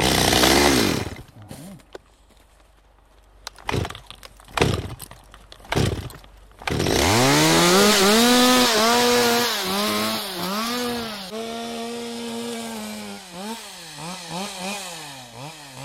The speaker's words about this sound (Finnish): sahaa kuusesta ensin alaoksia, katselee edelleen ylöspäin ja miettii sitten, että mihin suuntaan sitä lähdetään kaatamaan.